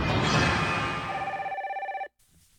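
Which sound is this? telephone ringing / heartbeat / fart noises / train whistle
telephone ringing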